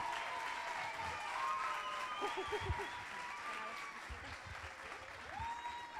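An audience claps steadily and densely for the full six seconds as a seven-year-old boy is invited up on stage, a loud, even wash of applause with a few voices calling out over it.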